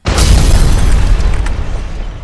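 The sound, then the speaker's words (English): A single loud car bomb explosion in the scoutmaster's car bursts in suddenly, followed by a heavy low rumble and crackling debris that slowly fades over a couple of seconds. “You mean the car bomb?”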